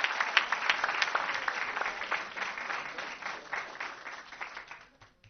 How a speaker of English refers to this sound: So let's give her a round of applause.